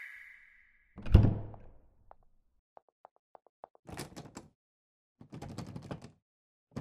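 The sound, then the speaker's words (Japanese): A heavy thud hits a sealed door of a room in a castle, followed by a run of small clicks and two bursts of rattling, like a handle being jerked against a lock that won't give. No voices. “無駄だ。扉は封印した。解除するまで、私以外は開けられない。”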